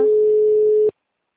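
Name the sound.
telephone tone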